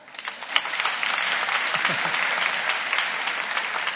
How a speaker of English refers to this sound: Do you like it? Yes. Well, if you like it, can you clap your hands?